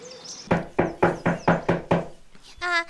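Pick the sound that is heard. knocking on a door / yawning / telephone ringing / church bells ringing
knocking on a door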